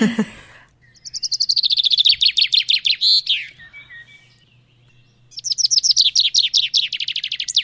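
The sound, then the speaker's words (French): A common chaffinch sings two bright, rapid trilled phrases, the first accelerating downward into a short flourish, the second following after a brief pause, clear with no talking. “Eh ben, c'est le pinson des arbres.”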